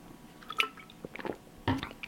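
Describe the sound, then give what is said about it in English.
Someone takes a quick sip of water: a few faint, wet mouth clicks and squelches, then a louder gulping swallow near the end, with no talking. “Just going to have a quick drink of water.”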